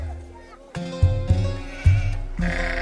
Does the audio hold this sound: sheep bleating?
yes